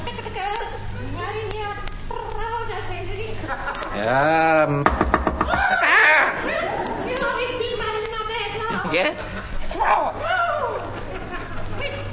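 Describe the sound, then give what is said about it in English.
A quick series of knocks on a door breaks in around the middle while several voices chatter and exclaim over it. “Who's that at the door, eh?”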